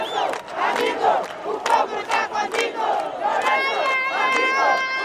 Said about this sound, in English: At that moment, the entire pavilion fills with smiles. People dance, one man shouts, "It is over. Our great president can now rest." And the crowd chants